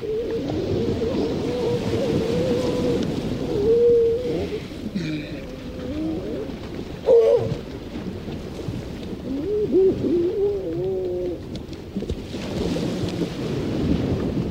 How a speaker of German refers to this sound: Mit einem Mikrofon und Aufnahmegerät geht er auf Geräuschfang, etwa auf Helgoland. Dort verbrachte er mehrere Wochen, um den Sound der Nordseeinsel aufzunehmen. Das Meer, den Wind und die Tiere, wie zum Beispiel diese Kegelrobbe.